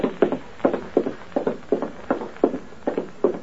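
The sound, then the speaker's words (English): A steady run of footsteps at an even walking pace, about nine or ten firm steps on a hard floor, with no talking. “Walk ahead of me.”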